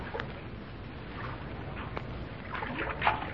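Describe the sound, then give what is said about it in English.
Water sloshes and splashes steadily around a canoe out on the water in search of a second canoe, with a few sharper paddle-like splashes standing out against a continuous wash of moving water, without any voices. “He and Judith have taken to the water again in search of the second canoe.”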